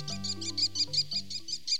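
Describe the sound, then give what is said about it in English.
An American Kestrel, a small North American falcon, gives a rapid, even series of about ten shrill, high-pitched klee notes, fairly clear, over a soft sustained low musical drone. “The American Kestrel. Small, numerous, and widespread.”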